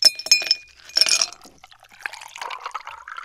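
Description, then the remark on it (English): Ice cubes clink brightly against a glass of iced tea in two quick bursts of chiming rattles, followed by softer pouring and liquid trickling sounds, clear with no voices. “The perfect glass of iced tea.”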